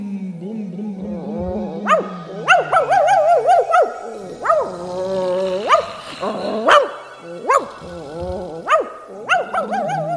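A dog under a chair barks furiously in sharp, repeated outbursts, with growling and whining between them, keeping up the agitated noise for about ten seconds.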